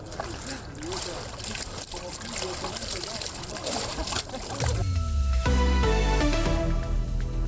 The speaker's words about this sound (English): It's Epiphany today, so we have to wash away all our sins. So you think the water has magic powers?